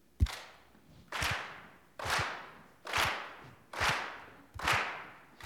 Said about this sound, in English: We're going to, if you want to snap or clap, we invite you to do that. But we're going to do it a cappella this morning. Is that all right? All right, so clap your hands like this.